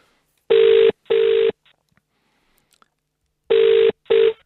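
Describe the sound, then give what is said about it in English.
A phone line rings while a call connects: two double rings, each a pair of short, buzzy tones, with a pause of a couple of seconds between them. Clear and fairly loud, with no voices. “I can't hear the phone. Okay. It's not connecting yet.”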